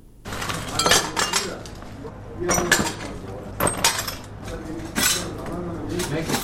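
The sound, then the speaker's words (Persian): Broken glass shards clink and scrape together as they're swept up at a rocket-damaged house in the second district of Khair Khana, Kabul, in a series of sharp, uneven bursts over a low background hum. “پارچه های شیشه را جمع می کنند و می خواهند ویرانه های راکت را که صبح اول قوس به این خانه در حصه دوم خیرخانه به بار آورده ترمیم کنند.”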